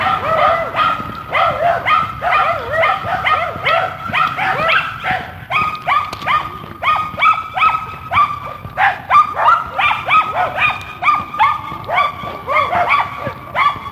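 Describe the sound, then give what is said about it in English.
Small yappy dogs out on a morning dog walk yap and bark in rapid, overlapping bursts, high-pitched, keeping up a near-continuous volley for the whole stretch with little pause between yips. “The little yappy dogs are behind me.”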